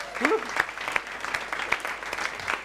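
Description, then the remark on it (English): A crowd claps steadily, giving God a clap, a dense, even wash of many hands with a few sharper claps standing out, and a brief voice rising over it near the start. “Should we give God a clap?”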